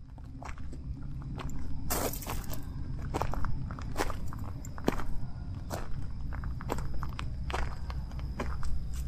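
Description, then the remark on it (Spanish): Unhurried footsteps fall in a steady, even rhythm, each step a short crunchy tap over a constant low rumble. No one speaks. “Entre mis pasos tranquilos vos pensarás, ¿y dónde estará yendo ahora?”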